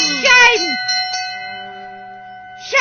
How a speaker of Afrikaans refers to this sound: Ja, hoor die klokke lui. Dis my klokke. Nee, dis my klokke.